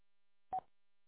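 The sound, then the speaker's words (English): A single short electronic chirp from a radio's timeout timer, a brief mid-pitched beep lasting about a tenth of a second, sounding alone against silence. “Do you have a timeout timer on that radio? Is that what I keep hearing chirping?”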